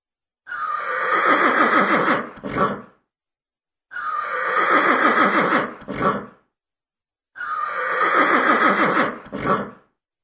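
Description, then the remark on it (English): A horse-whinny ringtone plays three times in identical bursts, each a loud, quavering neigh ending with a short snort, separated by brief silences. “Listen to the ringtones. Are they cool or uncool?”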